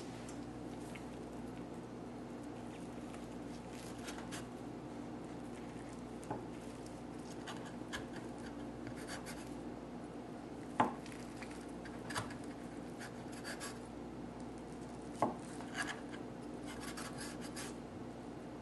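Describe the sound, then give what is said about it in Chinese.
A knife slices through a rolled-up piece of food on a board, producing soft rasping, rubbing strokes with a few sharp knocks of the blade against wood, over a steady low background hum. “跟住呢，我哋呢就可以切佢㗎啦，鬆鬆地咁都得㗎啦。”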